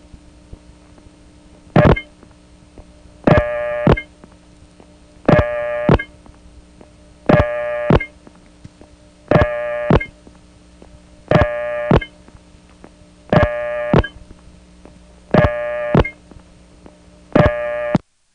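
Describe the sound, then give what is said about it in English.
Telephone trunk line noise that sounds like N1 carrier, with a steady low hum and hiss, while a harsh, buzzy tone pulses about every two seconds, nine bursts in all, each clear and fairly loud. “There we go, we're on this trunk again, the one that sounds like N1 carrier.”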